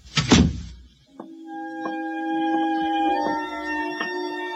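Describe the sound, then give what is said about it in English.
A kitchen door swings shut with one heavy thud, followed by a steady, sustained musical drone with soft pulsing notes and no voices. “Close the kitchen door behind you.”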